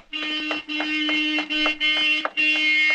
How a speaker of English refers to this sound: In fact, I believe that's Marion honking now. She usually stops in on our way home from school.